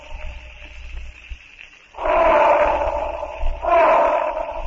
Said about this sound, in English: Crashing, smashing his way with a speed almost unbelievable for his huge bulk, Tantor the elephant breaks through the tangled mass of scrub and brush. Tantor thunders on.